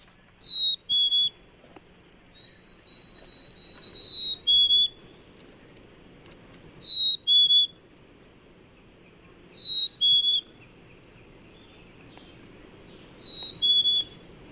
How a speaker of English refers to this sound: Some birds have been declining, but one that is certainly very common, and I have to say is one of my favorites, is a black-capped chickadee. So let's listen to the chickadee.